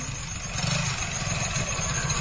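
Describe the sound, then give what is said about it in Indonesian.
A small automatic scooter engine sputters to life as it is started around 9 p.m. and settles into a steady, low idle, a continuous rumble with no voices present. “Kunyalakan motor metikku”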